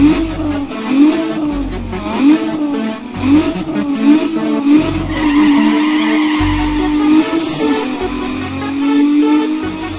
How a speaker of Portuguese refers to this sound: Na escuridão, os boyzinhos se assusta com ronco do motor que apavora na madruga.